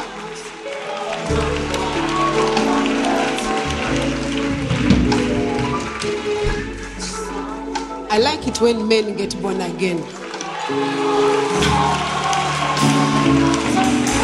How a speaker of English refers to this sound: Can you clap for another child of God who has been reconciled? Let's continue clapping until she arrives.